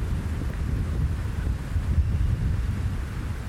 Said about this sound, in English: Glorious summer thunderstorms. And you can stand outside just like I'm doing right now.